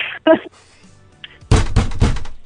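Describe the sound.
A fist bangs on a desk three times in quick succession, heavy thuds, loud and dull, after a short burst of voice at the start.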